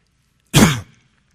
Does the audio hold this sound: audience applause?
no